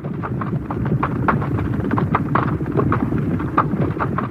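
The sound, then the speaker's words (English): Loud crashing and rustling of branches and leaves in a hedge, with dense crackling and repeated rhythmic thuds: a sound-effect recording used for horses going through hurdles in horse racing, sounding like several horses going through together. It runs continuously with no voices. “you will have a tape which has the sound of somebody falling through a hedge”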